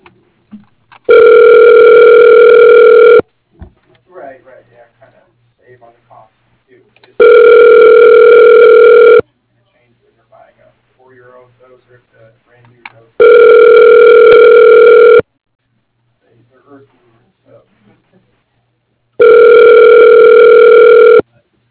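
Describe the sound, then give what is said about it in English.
A telephone line rings four times while a call is being transferred, each ring a long, steady electronic buzz lasting about two seconds, with roughly four-second pauses between them filled by faint, indistinct murmuring. “Can you hold on just one moment? I'll transfer you.”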